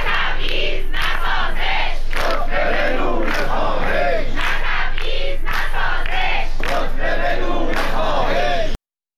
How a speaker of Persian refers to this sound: و در اصفهان معترضان بر ضد تبعیض علیه معلمان شعار دادند.